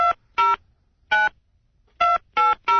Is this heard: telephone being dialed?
yes